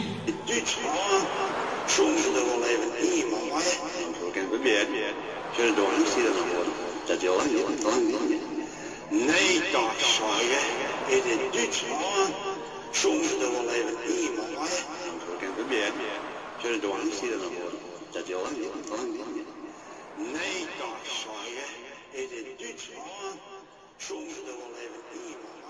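A music track plays steadily throughout, with a sung vocal line over dense, full-bodied instrumentation. The sound stays loud and continuous, without pauses, for the whole clip.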